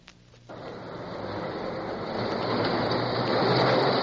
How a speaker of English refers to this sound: The busy little subway running underground between the Senate chamber and the Senate office building worked overtime, with heavy loads of senators commuting back and forth between the hearings in the caucus room and the Senate floor.